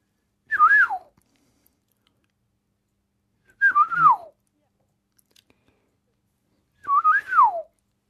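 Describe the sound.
A person whistles three fluting, melodic phrases imitating a golden oriole's song, performed live on Deutschlandradio Kultur. Each phrase is about half a second long with a warbling rise and fall, separated by pauses of roughly two seconds.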